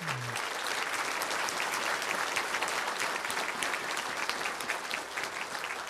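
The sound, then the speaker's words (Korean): A church crowd applauds to encourage the kindergarten, elementary and young adult groups, a dense, even wash of many hands clapping at constant loudness for the whole stretch, with a brief low tone at the very start. “수고한 유치부, 초등부, 그리고 20대, 30대 청년들 우리 다시 한번 박수로 격려해 주시기 바랍니다.”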